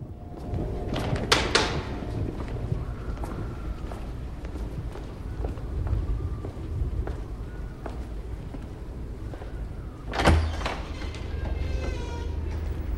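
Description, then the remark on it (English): A door into an auditorium opens with a clattering burst of noise, followed by faint creaks and a second sharp rattle later, all over a steady low rumble with no one speaking. “He goes through a door into the auditorium.”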